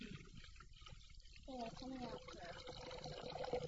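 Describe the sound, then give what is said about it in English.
Ordinary water pours steadily into a basin with a continuous splashing rush, fairly loud, while a voice starts talking over it partway through. “It makes a lot of noise, doesn't it? You can't really smell water, but it makes noise and you can touch it.”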